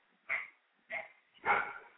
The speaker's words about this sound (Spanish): Acabo de llegar y hay un perro del vecino. Perro negro. Y me refiero que es un can. No es que mi vecino sea un perro